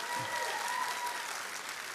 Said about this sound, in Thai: ปรบมือดังๆให้ภรรยาผมนะครับ